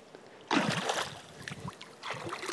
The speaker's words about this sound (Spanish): yo os presento también mi piscina. Vamos a meter los pieses. Uy, pieses, los pies. Uno, dos.